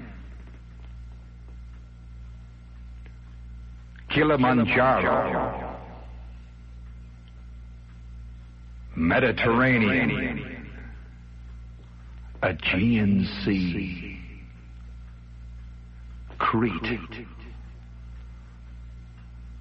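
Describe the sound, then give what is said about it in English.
Four single words, place names such as Khartoum, Dar es Salaam and Timbuktu, are spoken slowly, one at a time with pauses between them, each drenched in echo-chamber reverb that trails off after it over a steady low hum. “I repeat, can you give me a little echo chamber on that,”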